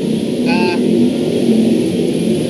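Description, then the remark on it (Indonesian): Steady, dense rumble of traffic on Jalan Ahmad Yani, a busy main arterial road, engines droning continuously without pause, with a short high-pitched whine cutting through briefly early on. “Ya ini rame banget jalannya karena kita di Jalan Ahmad Yani, jalan utama, jalan arteri gitu.”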